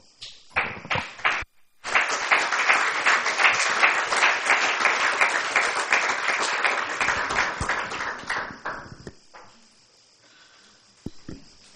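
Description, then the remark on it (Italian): An audience breaks into applause at the end of a speaker's talk, a brief burst followed by a short pause, then steady loud clapping for several seconds before it thins out and fades to scattered claps. “No, non bisognava applaudire, bisogna rispondere alle domande.”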